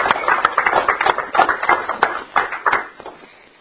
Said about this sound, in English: Let's give him a clap offering of thanks.